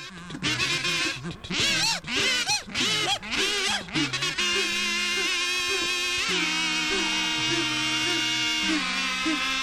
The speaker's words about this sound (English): Here are some kazoos.